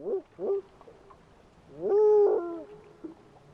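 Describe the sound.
A biologist imitates a spotted owl's hooting: two short low hoots, a pause, then a long drawn-out wavering hoot and one final brief hoot, mournful and moderately loud with no other talk.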